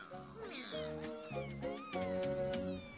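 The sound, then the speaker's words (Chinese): Two cats yowl and meow in agitated, overlapping cries, loud, with drawn-out wavering calls filling the whole stretch without pause. “两只猫气得胡子都竖了起来，并且唉声叹气地说：“ 又上当了，都怪自己不能谦让。”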